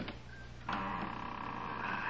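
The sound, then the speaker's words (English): A door lock being opened: a faint click, then a sudden, steady mechanical grinding rattle that starts partway through and continues at an even level until the end, with no voices. “Here goes the lock. Now to open this door without making too much noise.”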